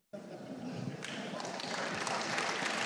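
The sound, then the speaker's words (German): An audience claps together in a final round of applause to pick a winner, a dense, steady wash of applause that swells a little after the first second and stays loud to the end, with some crowd voices mixed in. “Also wir machen nochmal ein finales Klatschen mit.”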